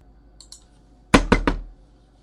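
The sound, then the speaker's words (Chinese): Three loud, forceful knocks on a door land in quick, even succession, preceded by a couple of faint light clicks in an otherwise quiet setting. “那我用力敲门干什么？”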